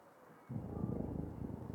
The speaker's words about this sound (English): Shh. Wait, you hear that? I can hear him snore from here.